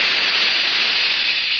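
A steady, unbroken hiss of a jet of moisture spray, bright and airy, holds at an even loudness for under two seconds with no voices over it, presented as standing for the Raleigh 903 cigarette.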